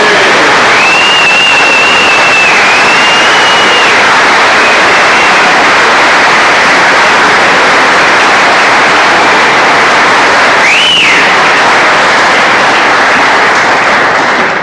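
A large audience in Oklahoma claps loudly and steadily for about fifteen seconds for a man and his family, a dense unbroken roar of hands with a couple of sharp whistles rising above it early on and near the end.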